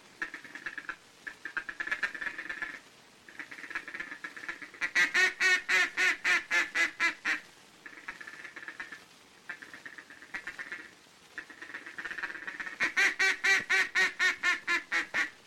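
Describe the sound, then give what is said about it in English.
A duck call blown to mimic a hen mallard's feeding chatter, made with the tongue as if softly and rapidly blowing the word 'ticket': rapid runs of clipped, rhythmic clucks alternating with drawn-out raspy quacks, fairly loud, with no talking. “It's the confidential chatter of a hen mallard mixed with an occasional optimistic quack”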